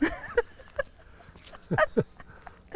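A dog barks in a handful of short, sharp yelps spaced irregularly, with a quick pair near the end; moderately loud against a quiet background.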